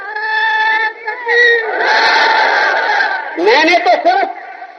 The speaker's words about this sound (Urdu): میں نے تو صرف ابھی سوال کیے, آپ جو نعرہ لگائیں آپ کی مرضی, میرا آپ کی زبانوں پہ کوئی کنٹرول نہیں, میں تو ایک سوال کر رہا ہوں.